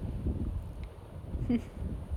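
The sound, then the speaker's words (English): Low, steady wind rumble with a soft wash of waves at a beach, a continuous outdoor roar at moderate level with no voices. “Just the sound of the waves. The rocking of the hammock. The wind blowing.”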